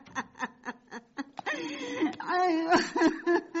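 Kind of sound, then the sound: human body sound, woman crying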